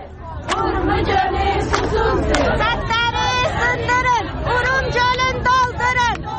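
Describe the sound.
A large protest crowd outside the General Department of Natural Resources and Watershed Management shouts and chants Azeri slogans such as "Urmia is thirsty" and "break the dams, fill the lake" in rhythmic bursts, demanding revival of Lake Urmia; many voices rise in unison, loud and continuous, over a low rumble.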